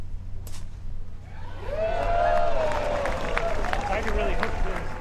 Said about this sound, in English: Y.E. Yang is teeing off next, and let's see what the crowd reaction is to his shot